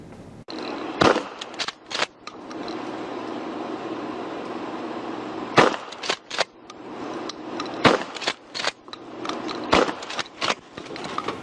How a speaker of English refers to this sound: Yeah, don't worry. Those were just beanbag rounds hitting the back window of that car. And it worked. You can see the bear made a quick exit.